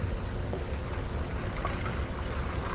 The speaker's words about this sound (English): Then we're going to pour out the water that's in our fresh water.